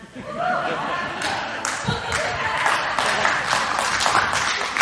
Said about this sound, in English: I mean, you clap, but I'm the one that receives it. Thank you so much.